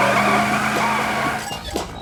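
A wagon shakes and rattles loudly and continuously as someone dances in it, a dense clattering, grinding noise with a few sharper knocks toward the end, and no voices.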